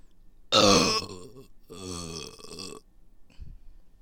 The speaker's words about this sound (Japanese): やばい、音割れしたかも。音割れするぐらいのゲップはやばいね。